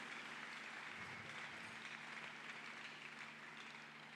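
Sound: audience clapping hands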